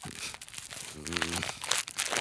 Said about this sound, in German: Was raschelt denn da und klingt verdächtig nach Kekskrümeln?